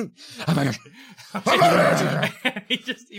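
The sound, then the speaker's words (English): A man's voice imitates Batman barking like a dog, with gruff growling yelps followed by a quick run of short, rhythmic barks, fairly loud, ending in something like laughter. “Maybe he barks like a dog.”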